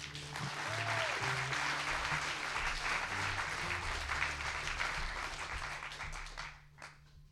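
An audience at a storytelling event in Fort Collins applauds the next storyteller with a dense, steady wash of clapping that holds at full strength for several seconds before tapering off at the end. A faint low hum sits beneath it.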